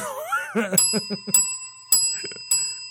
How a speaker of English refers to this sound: before we get into that part of the show, I just want to give a five-bell salute.